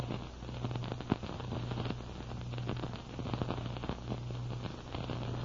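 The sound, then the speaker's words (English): A steady crackling driftwood fire burning in a snowy clearing in front of an igloo, with dense irregular pops and snaps over a soft continuous roar and a faint low hum, with no one speaking. “A big crackling fire of driftwood lighted up the snowy clearing in front of the igloo.”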